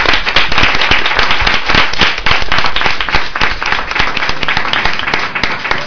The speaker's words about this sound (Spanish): Un aplauso para ellos, por haber venido a vernos.